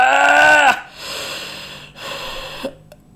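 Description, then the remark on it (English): Someone lets out a big, exaggerated fake yawn: a loud voiced groan that breaks into a long, airy breath, ending with a small click. “And you might have to do a few fake yawns.”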